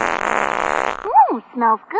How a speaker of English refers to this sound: Honey, did you fart?